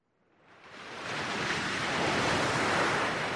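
Ocean waves crash against rocks below sea cliffs in a steady roar of surf, swelling up from quiet over the first second and then holding loud and continuous, with no voices.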